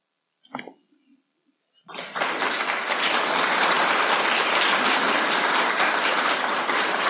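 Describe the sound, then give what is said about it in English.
After a brief vocal sound, an audience bursts into loud, dense applause for the other creators and readers that holds steady, a continuous crackle of many hands clapping until the end. “And let's have another round of applause for the other creators and readers.”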